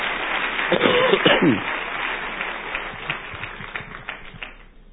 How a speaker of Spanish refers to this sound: Sí, ustedes, yo sé que ustedes se aplauden y todo, pero yo oro para que el Espíritu Santo le abra los ojos del corazón para que ustedes vean esto.